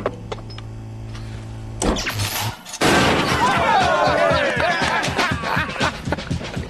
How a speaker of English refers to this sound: So teams, you have 10 hours from the time that our mighty car crusher crashes.